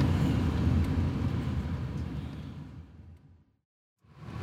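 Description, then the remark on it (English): A car's steady engine and road rumble gradually fades as it pulls into a private parking lot and slows to a stop, leaving a moment of silence before low vehicle noise returns. No one speaks. “We pull into a parking lot and we all get out of the car.”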